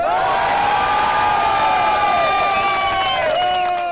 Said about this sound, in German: Der Jubel der syrischen Flüchtlinge war groß